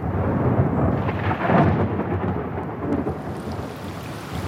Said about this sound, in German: Gewitter und Regen, das Trommeln der Tropfen auf ein Fenstersims.